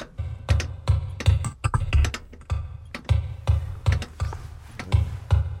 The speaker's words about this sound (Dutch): Een beitel die slaat? Ja.